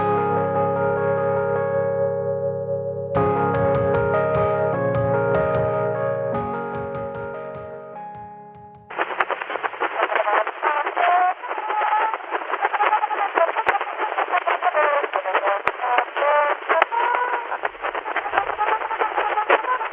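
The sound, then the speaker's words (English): Music from an 1878 recording made by a Thomas Edison phonograph, restored by scientists at the Lawrence Berkeley National Laboratory: a few sustained, organ-like notes hold steady for several seconds, then give way to a harsh, tinny, crackling playback with a narrow, scratchy tone that continues to the end. “That's music you're listening to from an 1878 recording made by a Thomas Edison phonograph.”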